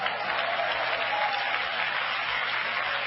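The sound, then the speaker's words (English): Steady applause from an audience at a camp meeting sermon, a dense crackle of many hands clapping at once, fairly loud and even throughout with no voices standing out. “I appreciate the 30% of you clapping your hands on that one.”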